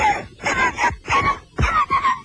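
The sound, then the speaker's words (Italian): A woman's strange, nervous cough: a series of short, throaty coughs come in quick uneven bursts, some voiced and groan-like, moderately loud with no speech around them. “Una strana tosse nervosa.”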